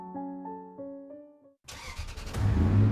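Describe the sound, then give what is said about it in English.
After a short steady electronic tone, a bright red 1990 Chevy Corvette with a Chevy 350 small-block V8 engine cranks and fires up, then revs into a loud, deep rumble that builds toward the end. “This year, it's a 1990 Chevy Corvette.”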